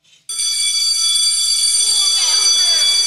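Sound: school bell ringing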